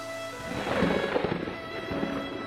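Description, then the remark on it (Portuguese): Heavy rain pours steadily outside while a low rumble of thunder rolls through, swelling in the middle and fading slightly; a dense, continuous storm wash with no voices. “Aquela forte chuva lá de fora é ignorada pelo meu sonho agora.”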